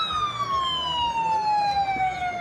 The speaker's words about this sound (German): Es gibt Jubel für die Männer und Frauen der Border Patrol, die laut hupend durch die Straßen fahren.